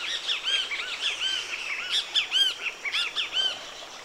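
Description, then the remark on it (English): Great kiskadee calls ring out repeatedly from a kapok tree at Palo Mulato along the Huatulco River, a string of bright, harsh chirps in quick bursts amid other birdsong, clear with no voices. “In the calls of the great kiskadees, talking to us from the kapok tree in the Palo Mulato.”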